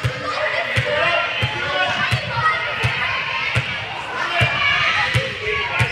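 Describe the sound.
A player in an Iowa basketball game dribbles right-handed before free throws, in a steady, even rhythm, each bounce a sharp thud, about eight in all, over a continuous hubbub of crowd noise and indistinct voices.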